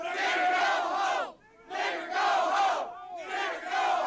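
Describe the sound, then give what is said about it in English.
A crowd in Forsyth County, Georgia, about 30 miles north of Atlanta, shouts racist slurs and "go home" in loud, overlapping bursts, three surges of many raised voices separated by two brief lulls. “Where did the people who come from who were shouting, "Nigger, go home"?”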